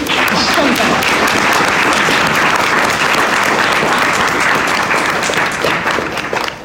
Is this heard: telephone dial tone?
no